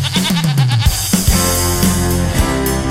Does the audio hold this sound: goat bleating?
yes